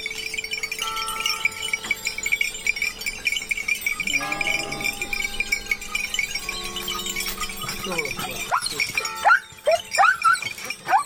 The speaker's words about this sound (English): We leave you this week on a mountain along Italy's Tuscan coast. Near the village of Carrera, Stephen Feld found a shepherd driving his flock down marbled hillsides to the sound of bells from the village church.